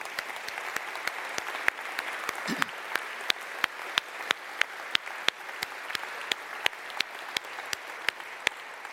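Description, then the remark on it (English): An audience claps steadily for several seconds, a dense patter of hands with a few sharper, louder claps standing out at fairly regular intervals; no voices are heard. “He's the only one you can probably applaud tonight, so let's do that now.”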